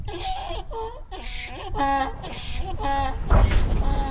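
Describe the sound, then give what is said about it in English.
A wild burro in the Sonoran Desert brays loudly, a rhythmic series of harsh, wheezing honks rising and falling in pitch, with no one talking. “In the Sonoran Desert, the loudest animal sound you're likely to hear, if you're lucky, is the braying of a wild burro.”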